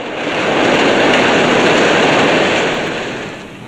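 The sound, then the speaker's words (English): A train rumbles past overhead on a railway bridge, a loud, dense roar that swells in over the first half-second, holds steady, then slowly fades as it moves away. No voices. “The gunman continues to run towards a railway bridge. A train passes above.”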